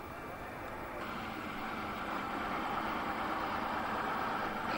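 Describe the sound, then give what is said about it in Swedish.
A heavy truck engine idles steadily and continuously, a low, even rumble with a broad wash of noise over it, holding the same level throughout. Trucks like this have special permits for traffic to Jordan and carry double West Bank and Jordanian license plates. “Speciella lastbilar har tillstånd för trafiken på Jordanien.”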